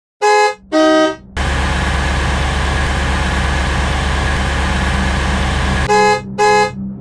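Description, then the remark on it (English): A car horn gives two quick, loud honks, a steady engine rumble runs for several seconds, and then two more sharp honks follow, clear with no voices. “I loved the sound of the engine. I loved the tires, the lights, the horn, the windshield.”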